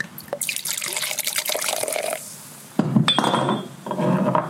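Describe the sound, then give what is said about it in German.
Glasses clink in a toast: a sharp glassy clink rings out near the middle, leaving a brief bright tone, surrounded by splashy, pouring sounds of pét-nat wine. No one speaks. “Prost.”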